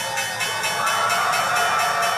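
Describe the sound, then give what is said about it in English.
The New York Stock Exchange opening bell rings loudly and continuously to begin the trading day, its bright metallic clang pulsing in a rapid, steady rhythm for the whole stretch. “The New York Stock Exchange usually begins the day like this.”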